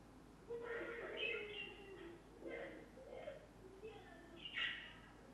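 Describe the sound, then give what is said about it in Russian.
Faint, high-pitched chirping comes in a few short, scattered bursts against a soft background hiss, like small birds calling now and then. “Дети покричали, птички почирикали.”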